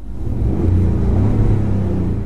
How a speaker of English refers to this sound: This is the real actual sound of a Ford F-150. Here you go.